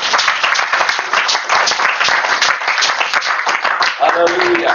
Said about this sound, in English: Well, let's give Jesus a good clap offering.